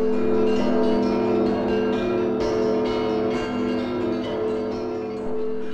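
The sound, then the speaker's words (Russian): Church bells chime in a continuous, layered peal in the city of Kyiv, with repeated strikes blending into a steady ringing hum. The ringing stays loud and full throughout, with no voices. “Город Киев встретил богатыря и Забаву путятишну колокольным перезвоном.”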